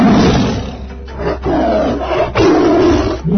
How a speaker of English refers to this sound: The tiger screeched.